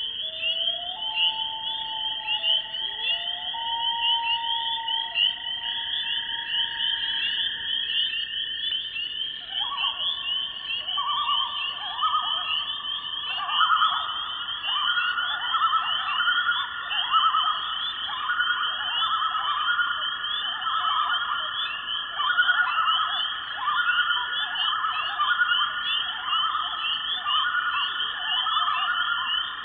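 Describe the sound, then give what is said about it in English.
A pair of common loons in the Boundary Waters of Minnesota give long, mournful wailing notes that step upward in pitch, then break into a wavering, pulsing yodel, over a steady high chorus of spring peepers. “To the boundary waters of Minnesota, where a pair of common loons returns to breed and raise their young.”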